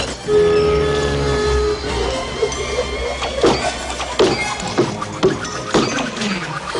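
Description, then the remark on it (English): A cartoonish sound effect for the axe-chopping machine built by Belle's inventor father in Beauty and the Beast, made before animation: a steady whistling hum gives way to a string of sharp, irregularly spaced chopping thunks, each trailed by creaky, springy resonances. “For example, in Beauty and the Beast, Belle's dad was this inventor and he had built that funny axe chopping machine. That was a sound that we made before animation.”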